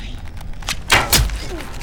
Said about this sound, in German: Kai traut sich. Er schießt … den Pfeil in den Oberschenkel. Ah, Scheiße! Ihr Krüppel hat mir ins Bein geschossen!